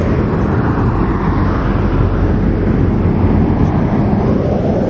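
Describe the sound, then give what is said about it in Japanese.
A steady, loud rumble of road traffic fills the whole stretch, a continuous low roar of vehicles passing on a busy national highway beside rice fields where swans are, with no voices. “こんなほら交通量の多い国道の脇に白鳥がいるわけですよ、田んぼの中にね。”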